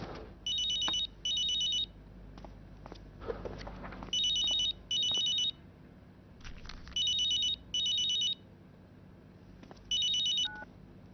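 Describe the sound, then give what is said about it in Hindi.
A telephone rings in a steady double-ring pattern, two bright trilling bursts repeating about four times, fairly loud, over a faint background hum with a few soft clicks and no talking. “शायद मुनासिब वक्त पर फोन नहीं किया, आप ठीक हैं?”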